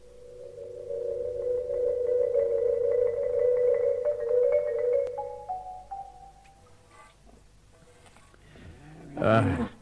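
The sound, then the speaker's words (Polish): A cow that is about to be milked lets out a long, drawn-out moo that holds steady for several seconds before breaking and trailing off, followed by a short, louder burst of sound near the end. “Już panu służę, tylko wydoję tę krowę.”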